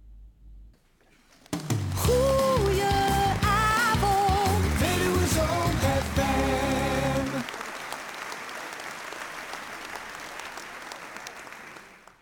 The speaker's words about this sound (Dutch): Ja, ik hoorde er nog wat achteraan, maar ik weet niet of het erbij hoort, een applaus, en dat zal vast niet voor mij geweest zijn, maar goed, dat maakt niet uit.